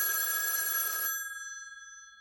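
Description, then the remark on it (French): A telephone bell rings loudly, a rattling metallic burst lasting about a second, then its bright tone lingers and slowly fades away. No one speaks. “Nancy ! Lança Kenyon. Suzanne au téléphone !”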